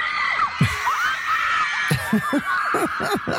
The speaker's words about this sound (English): And the crowd is gone wild, woo! As they should be.